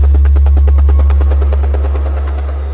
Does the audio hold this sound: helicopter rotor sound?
yes